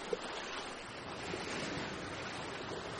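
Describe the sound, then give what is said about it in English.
Steady ocean waves, getting a little rough, wash and roll in a broad, continuous hiss of surf, with a breezy wind texture over the water and no voices. “The waves are getting a little rough.”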